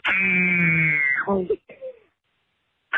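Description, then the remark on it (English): A caller from Bloomer gives a loud, sustained fearful scream that holds a steady pitch for over a second, then cracks and drops into a few short, shaky vocal fragments before falling silent. “This is my kind of fear scream.”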